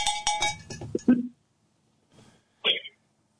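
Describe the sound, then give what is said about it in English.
A quick cluster of metallic cowbell clanks rings out during an evening broadcast, followed after a pause by a faint rattle and one more bright, tinny clank. The strikes are sharp and irregular. “Yeah, no, they're just cowbells. Yeah, just cowbells all up in this place this evening.”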